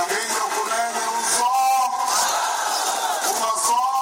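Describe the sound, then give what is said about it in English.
A large, boisterous crowd of tens of thousands of supporters cheers and yells together at a main party's final election rally in Angola's capital, dense overlapping voices rising in loud chanting swells, with no single speaker standing out. “Final rallies for the main parties drew tens of thousands of boisterous supporters in the capital this week.”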